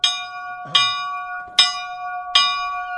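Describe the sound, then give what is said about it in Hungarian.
The small bell of the Székvölgy mining settlement rings four times at a steady, unhurried pace, each clear metallic strike ringing on with a bright, sustained hum before the next. Fairly loud, with no talking. “Ez a Székvölgy bányatelepi kis harang.”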